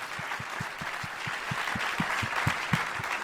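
A crowd applauds an audience member, a dense wash of clapping holding steady throughout with a regular low thumping pulse beneath it. No one speaks.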